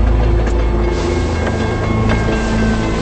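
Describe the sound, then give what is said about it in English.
A train runs steadily along tracks curving through a snowy landscape at night, a loud continuous low rumble and hum broken by rhythmic metallic clacks roughly every half second. No one speaks. “Outside, the engine's headlights show the tracks curving through a snowy landscape.”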